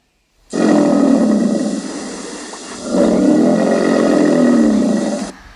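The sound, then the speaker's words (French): An alligator roars in two long, deep, rumbling bellows, the second starting right as the first fades. The growl is loud and throaty, with no voices around it. “Non, c'était l'alligator.”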